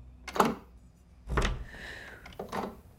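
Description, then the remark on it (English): A door handle clicks as someone touches the doorknob, then a door into a room is pushed open with a soft thud and a faint drawn-out creak before a last knock, all quiet with no talking. “Jeffrey touches the doorknob and pushes the door open.”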